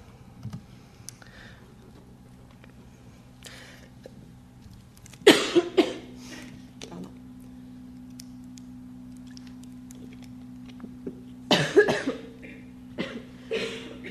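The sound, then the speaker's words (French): Several audience members cough, two distinct bursts of coughing around five and twelve seconds, with scattered smaller coughs and throat clearing in between over a steady low hum. “C'est le temps, vous pouvez tous tousser.”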